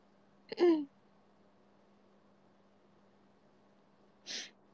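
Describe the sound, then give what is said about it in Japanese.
A short, sharp sneeze bursts out, followed after a few seconds of quiet by a brief, breathy exhale or sniff. “養殖くしゃみは助からない。養殖くしゃみダメか。”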